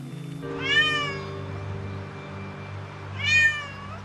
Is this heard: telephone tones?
no